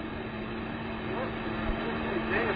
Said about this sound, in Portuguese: Pô, isso aí é avião, hein? Não é avião?